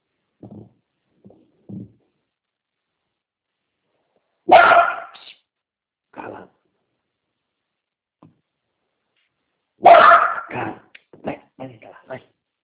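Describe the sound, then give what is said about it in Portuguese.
A pet dog barks loudly in two sharp bursts several seconds apart, trailed by quicker, quieter yips and whimpers, with brief murmured voice fragments in the gaps. “Tem meu cachorro que é meio enjoado.”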